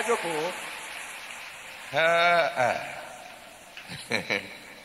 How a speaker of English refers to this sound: Let's go ahead and give the Lord a big round of applause. Thank you, Father. Glory be to God.